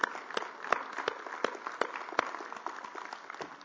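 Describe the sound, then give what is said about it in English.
A crowd applauds steadily, giving God a hand clap, with many overlapping hand claps forming a dense wash and a few sharper, louder claps standing out. There is no talking over it. “Let's give God a big hand clap for the hundredfold return.”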